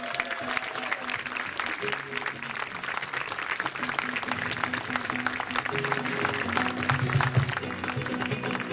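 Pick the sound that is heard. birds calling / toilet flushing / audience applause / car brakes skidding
audience applause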